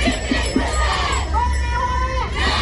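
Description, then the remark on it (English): Thousands of nurses and midwives marching in protest through Sydney's CBD and Hyde Park, demanding better pay: a loud, steady roar of many voices with a sustained shout or chant rising above the din midway through. “Thousands of nurses and midwives have abandoned wards and are marching in Sydney CBD demanding better pay.”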